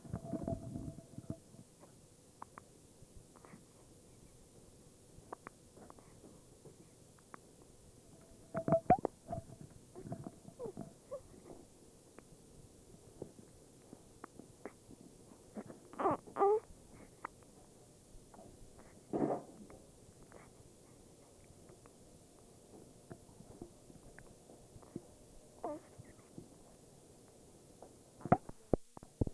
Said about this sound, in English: Have you ever heard a baby with a hiccup